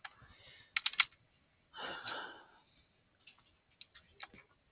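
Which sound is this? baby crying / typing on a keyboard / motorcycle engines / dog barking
typing on a keyboard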